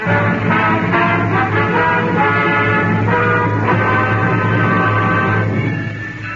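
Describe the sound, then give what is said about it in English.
Loud bells ring out steadily, tolling the hour of a marriage, fresh strikes arriving about once a second over a dense wash of overlapping, lingering tones, with no voices. “What are those bells? They toll the hour of marriage.”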